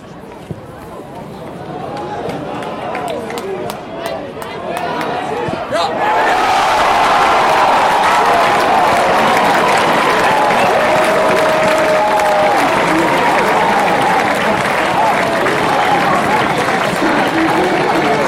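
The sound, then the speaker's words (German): A crowd of 1,800 spectators at a Sportclub Freiburg versus Borussia Mönchengladbach semifinal football match claps and cheers across a wide space, swelling sharply after a few seconds into a sustained, loud roar of applause with scattered shouts that holds steady to the end. “Liebe Fußballfreunde, der Sportclub Freiburg freut sich über die großartige Kulisse hier heute beim Halbfinale und bedankt sich bei 1.800 Zuschauern.”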